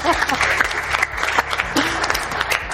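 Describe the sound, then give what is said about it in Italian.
An audience at a talk in the Motor Valley breaks into steady, dense applause, a continuous wash of many hands clapping at a loud, even level for a few seconds, with a low hum underneath. “C'è un applauso a questo.”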